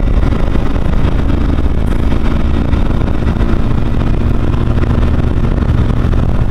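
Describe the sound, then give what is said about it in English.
A loud, steady engine rumble drones continuously, heavy in the low end with a constant hum, like a car running. No one speaks. “Car issues there.”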